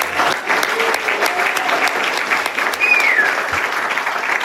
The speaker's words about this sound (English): can we just give this a round of applause, please?